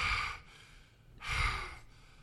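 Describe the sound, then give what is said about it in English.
Someone imitates the heavy mouth breathing of actor Chris Klein in a 2000 movie: two loud, airy breaths, an inhale-exhale rhythm with a brief pause between, and no talking. “The people around him, while he's mouth breathing, are acting like actors would.”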